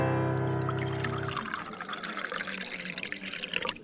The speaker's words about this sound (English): Tell them to keep pouring